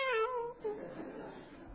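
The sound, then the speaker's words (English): A human voice mimics a cat's meow: one nasal, wavering cry that slides downward, then fades into a softer, breathy drawl. “Unfortunately, the battery started to die on the tiger. And it ended up meowing at the end.”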